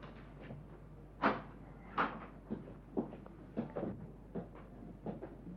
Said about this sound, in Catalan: L'home ja fet en obrir-nos la porta, després d'haver preguntat qui trucava.